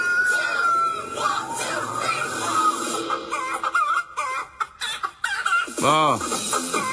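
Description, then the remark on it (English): A person imitates a chicken, letting out a series of rapid, warbling clucks over a noisy, crowded background, ending with a strong rising-and-falling squawk. “This was the... With … clucking along.”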